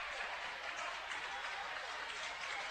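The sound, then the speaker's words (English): A large crowd at a basketball game gives a standing ovation, applauding steadily and loudly in a dense, continuous roar of clapping and cheering that holds at full strength without pause for the whole moment. “Tie 53 apiece, and she'll get a standing ovation from the Sal Shelby crowd.”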